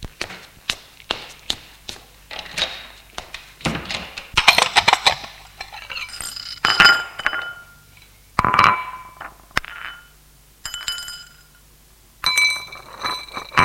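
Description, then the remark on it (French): Dishes and glassware clink and clatter in a kitchen as a man prepares breakfast and coffee, with sharp irregular taps, rattles and a few soft thuds as items are set down and moved about, no talking. “Et Marc qui prépare le petit déjeuner”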